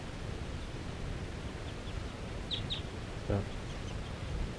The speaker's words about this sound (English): So, this is one of the wild birds calling from that tall fir tree by itself.